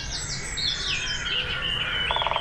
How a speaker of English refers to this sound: And you'll hear the great spotted woodpecker doing its thing, drumming.